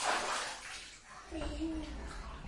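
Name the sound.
water splashing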